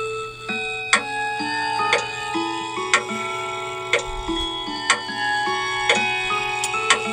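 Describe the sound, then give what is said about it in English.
A St. Michael clock chime tune, previewed as a sound option in an app, plays alone, a steady melody of bright, bell-like struck notes arriving about once a second, each ringing on with shimmering overtones. “St. Michael chimes. Preview sound button.”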